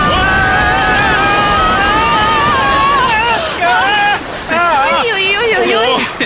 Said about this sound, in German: Vorsicht, Leute! Jetzt wird's kurz etwas wilder. Festhalten! Ah, ich seh's! Stromstelle voraus,